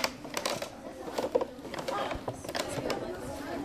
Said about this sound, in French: Des pas discrets craquent sur le plancher.